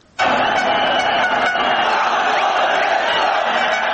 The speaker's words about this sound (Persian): صدای تشویق های هزاران افغان مهاجر مقیم ایران است که در 3 بازی قبلی افغانستان مقابل تیم های فلسطین، نیپال و عربستان سعودی در محل برگزاری مسابقات یک صدا افغانستان گفتند و ملی پوشان کشورشان را تشویق نمودند.